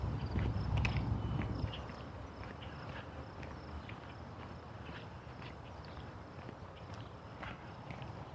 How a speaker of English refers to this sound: Hearing some kind of bugs chirping here. I don't know if it's crickets or...